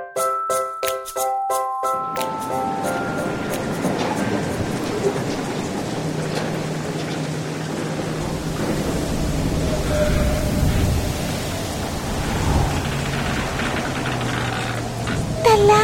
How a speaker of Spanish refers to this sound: Estoy empezando a asustar. No para la tormenta. Sí, el bote se mueve mucho.